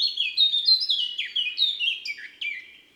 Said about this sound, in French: La fauvette à tête noire, toujours très bavarde, une pipelette. Début de strophe plus ou moins grinçant et joli sifflotis.